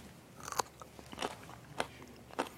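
Four crisp, crunchy bites into a raw carrot, evenly spaced about half a second apart, with quiet gaps between them and no talking.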